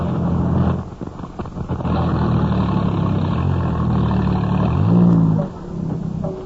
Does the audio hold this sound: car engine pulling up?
yes